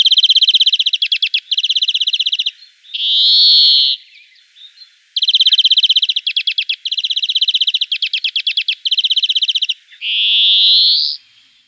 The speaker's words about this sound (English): Greenfinches sound like a human impression of birdsong, but listen for that drawn-out wheezy zwee at the end.